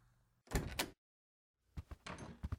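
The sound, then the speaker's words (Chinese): A bedroom door being opened: a rattling clatter of the latch, a brief pause of silence, then a longer burst of knocks and creaks as it swings. No one speaks. “那就开门呀，磨磨唧唧的。”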